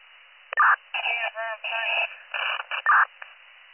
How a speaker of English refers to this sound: 4153 advise, you can take a cancel. They're about 3 minutes out. Do you want me to drop your cancellation tones?